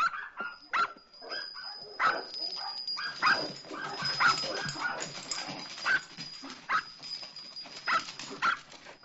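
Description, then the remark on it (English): The household's own dogs bark repeatedly in quick, uneven bursts, mixed with higher yips and whimpers, moderately loud, with no talking over them. “Hey, quiet. Those are our dogs.”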